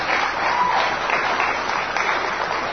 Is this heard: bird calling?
no